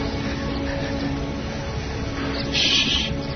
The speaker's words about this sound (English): Shh. Yes. You hear that bird? I drove all the way from New Orleans to hear those stupid birds.